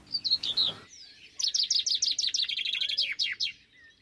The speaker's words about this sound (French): Une citelle torche-peau, accompagnée d'un moineau friquet, se posa sur la petite plateforme. Ce joli monde se bousculait en jacassant, épaté de ce festin inespéré.